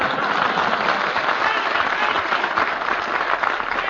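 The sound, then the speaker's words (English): Steady, dense applause from a large studio audience on a program, many hands clapping at once in a continuous loud wash with no pauses and no voices standing out. “…, there is no room on this program for two orchestra leaders when only one of them has talent, and I'm thanking you, ladies and gentlemen, for your applause in advance.”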